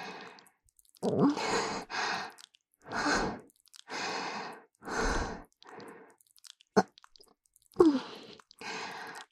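wet squelching sounds

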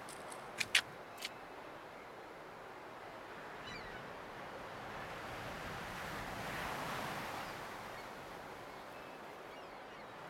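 ocean waves washing ashore

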